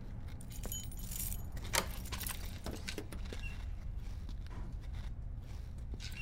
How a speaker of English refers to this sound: Got a security door coming up. No way of getting through that without... There's keys in the door.